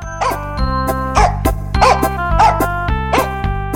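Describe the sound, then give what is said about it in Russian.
The owner's dog, leaping out of a sack, barks as it chases a fox, in short, sharp bursts, about five times in quick succession, over a steady background of sustained musical tones and low bass notes. “Вот села она, положила мешок на землю, и только было принялась петь, как вдруг выскочила из мешка хозяйская собака. Да на нее! Она от собаки, а собака за нею, не отставая ни на шаг.”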